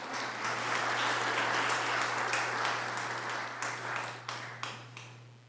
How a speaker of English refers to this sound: Let's have a round of applause for the children.